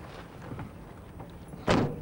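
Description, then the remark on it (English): A car door is opened for a woman to climb in, handled with soft clicks and rustles, then shut with one solid thump near the end. No one speaks. “He opens the door and she climbs in.”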